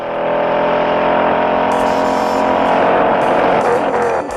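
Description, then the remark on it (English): A Ford Mustang engine, from the car chase in the 1968 film Bullitt where Steve McQueen drives through the streets of San Francisco, roars loudly and steadily for several seconds, its deep throaty growl rising in pitch as it revs, with brief hissing bursts in the second half and no voices. “In the movie, there's a pretty famous chase sequence where Steve McQueen drives his Mustang all over the streets of San Francisco.”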